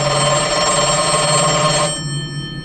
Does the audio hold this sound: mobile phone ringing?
yes